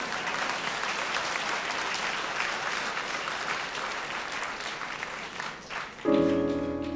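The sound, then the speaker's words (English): A crowd claps steadily for about six seconds, a dense continuous patter of applause, before a sustained musical note cuts in near the end. “Well, come on, clap, damn it.”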